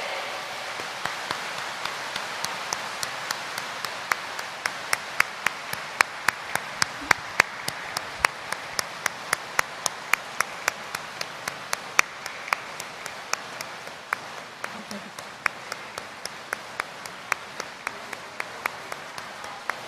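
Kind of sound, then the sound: crowd, warm applause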